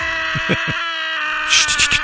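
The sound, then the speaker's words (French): Hundreds of people in Chicago scream together at full volume to vent their frustrations and stress, a sustained, shrill wall of many voices that swells even louder near the end, with a few lower thumps underneath. “Le Scream Club réunit chaque dimanche, écoutez plutôt, des centaines de personnes pour crier ensemble leurs frustrations.”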